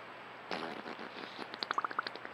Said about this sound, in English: Beaver farting.